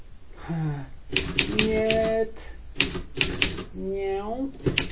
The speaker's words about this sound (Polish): Dostałem się do nowiutkiej maszyny do pisania.